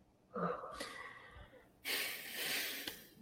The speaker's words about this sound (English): Whew! All right. Deep breath.